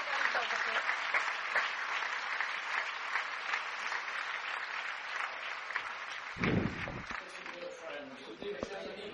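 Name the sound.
audience applause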